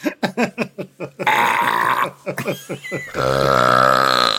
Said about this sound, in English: So yeah, my dad says in Argentina where he grew up, he played football with a guy who could burp louder than a whistle. Like they'd ask him to burp instead of whistle if they wanted him to call someone over.